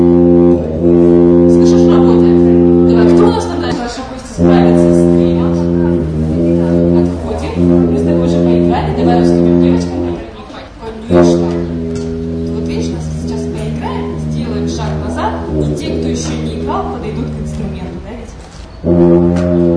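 Deep, sustained tuba notes sound loudly, the pitch shifting in steps as the valves are pressed by a child being taught to play, with brief breaks between some of the long tones.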